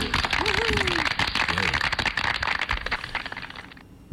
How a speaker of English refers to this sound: Please clap.